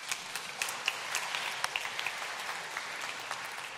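A round of applause from a crowd, dense steady clapping with scattered sharper claps standing out, continuing at an even moderate level throughout with no voices.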